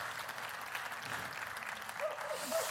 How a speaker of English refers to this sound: Everybody in the room, can we give a big round of applause to all of our family online? We love you.